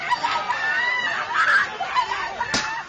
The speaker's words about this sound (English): A woman screams in anguish. Her husband has just been paralyzed by an attacker wielding a bicycle lock at an anti-Japanese protest in the city of Xi'an.